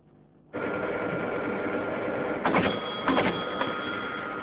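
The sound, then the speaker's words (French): A telex teletype printer with a rotary print head, which holds all the uppercase and special characters, starts up abruptly and runs with a steady mechanical clatter, punctuated by a few louder clunks and strikes. It is moderately loud, with no voices. “L'imprimante, où on voit ici la tête d'impression, qui est une tête rotative, ce n'est pas une boule comme sur les boules IBM, mais qui contient tous les caractères majuscules et les caractères spéciaux.”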